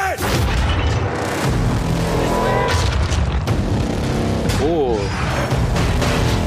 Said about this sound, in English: Ooh. Planes, yeah, boats. There's the artillery.